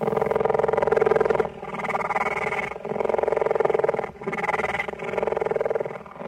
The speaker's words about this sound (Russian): Подойдем к следующей клетке. Перед нами леопард.